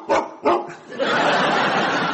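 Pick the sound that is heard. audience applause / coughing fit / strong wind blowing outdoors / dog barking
dog barking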